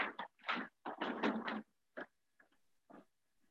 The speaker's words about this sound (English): So you, excuse me, I gotta open the door.